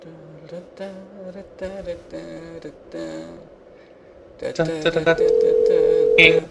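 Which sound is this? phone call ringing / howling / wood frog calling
phone call ringing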